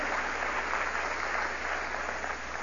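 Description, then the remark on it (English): An audience applauds, a steady, dense wash of many hands clapping at once that holds at an even level throughout, with no voices standing out. “Yeah, it's okay to applaud for God choosing you.”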